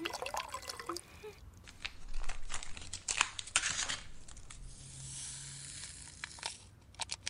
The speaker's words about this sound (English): They are oral rehydration salts, ORS for short. Look, they are very easy to administer. All you do is pour the contents of the pack into water and stir. Here, let me show you.